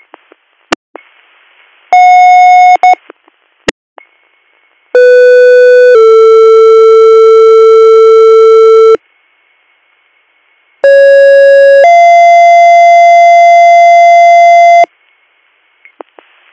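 Loud EMS dispatch paging tones for Greater Valley EMS, for a call at 47 Front Street for a male patient with severe abdominal pain: a brief tone burst, then two long sequences, each a short steady tone followed by a longer held lower tone, separated by a pause, with faint clicks between.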